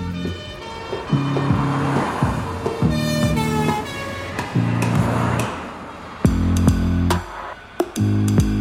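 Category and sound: vehicle, police car speeding off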